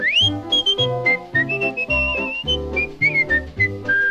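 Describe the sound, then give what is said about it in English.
A person whistles a bouncy melody, opening with an upward slide, over a full instrumental backing of steady bass and chords. The whistling sits clearly on top for the whole stretch. “Then wiggle your finger, put it on your nose, grab your ear and whistle.”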